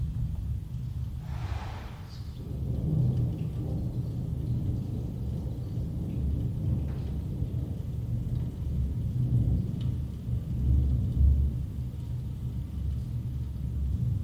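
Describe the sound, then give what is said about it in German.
Low, muffled rumbling rolls on steadily, like thunder and storm noise heard from indoors through a closed window, with a brief brighter swish early on and no voices. “Atmo Collegra bei geschlossenem Fenster mit Gewitter treffen.”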